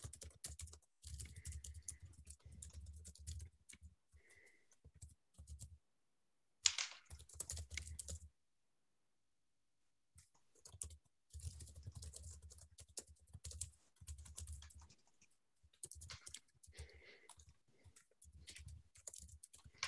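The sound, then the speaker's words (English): Typing on a computer keyboard: rapid bursts of crisp key clicks with a few brief pauses and one longer silent gap, no voices. “Sorry, just typing up here.”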